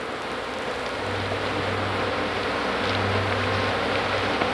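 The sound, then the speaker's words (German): A swarm of flies buzzes over cow carcasses in a dense, steady drone, with a lower, louder hum swelling twice as flies pass by. No one speaks. “Das Summen, das ihr gleich hört, sind Fliegenschwärme, die Kuhkadaver befallen.”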